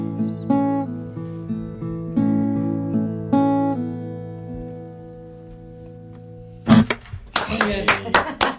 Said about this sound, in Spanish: Nos queda muy pobre siempre el aplauso porque somos dos.